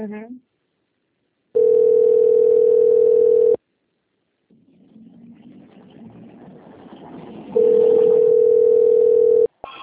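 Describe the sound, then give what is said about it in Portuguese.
A steady, loud telephone dial tone sounds twice, each lasting about two seconds, separated by a stretch of low rumbling noise; a brief voice is heard at the start. “telefone.”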